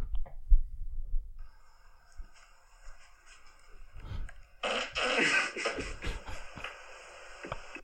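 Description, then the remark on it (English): A low, sputtering fart rings out near the start, from a video of a man putting his rear right near his sleeping partner's face, followed by a steady electronic-sounding hum and a louder, noisy burst of activity later on, with no talking. “That one's funny because it's a video of his sleeping partner and then he puts his ass right near her face and farts.”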